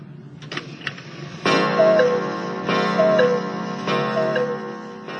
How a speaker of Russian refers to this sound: Вот сейчас эти же самые часы будут переключены на кукушку.